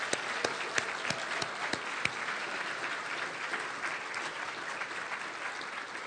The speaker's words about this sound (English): I think we should just, as the Sunday school kids are leaving, we should give them one more applause.